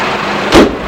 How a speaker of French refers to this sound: Allez, entre dans la voiture. Nathalie lui ouvre la portière. Il entre dans le siège, sur le siège avant.